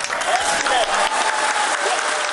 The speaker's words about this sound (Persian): یک تن از کارمندان مرکز فضانوردی با هیجان و کف زدن مردم نشست را اعلان نموده و گفت که هندوستان در مهتاب فرود آمد. Soft landing on the moon. India is on the moon.